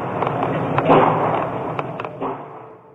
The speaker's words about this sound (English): Then he walked across campus and began killing people in an engineering building. The sound of gunfire was caught on a student's cell phone.